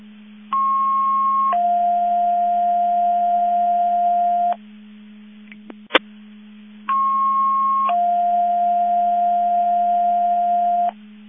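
Mutual aid box alarm test tones: a short higher tone steps down into a longer, steady lower tone, and the pair sounds twice with a pause between, over a constant low hum and a sharp click.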